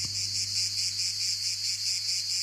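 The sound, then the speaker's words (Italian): Cicadas chirp in a steady, shrill chorus, pulsing rapidly and evenly throughout, with a faint low hum underneath and no voices. “qua ci sta ancora Calandrella, ci stanno ancora le cicale”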